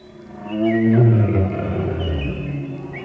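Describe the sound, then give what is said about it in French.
An old man blows into a small pipe to imitate a grizzly bear's growl: a loud, low, rumbling roar swelling for about three seconds, with thin whistling tones gliding above it. No one speaks. “Vite, Virgile souffla dans son pipeau et imita le grognement d'un ours gris.”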